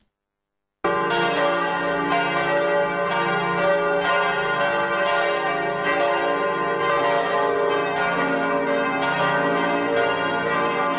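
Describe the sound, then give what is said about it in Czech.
Bells of Serbian Orthodox churches ring at midnight to mark Christmas, the birth of Jesus Christ, loudly and continuously after a brief silence, their overlapping peals blending into a dense, sustained clangor that fills the whole clip with no voices. “Zvona sa crkvenih hramova u ponoć simbolično su oglasile trenutak rođenja Sina Božijeg Isusa Hrista.”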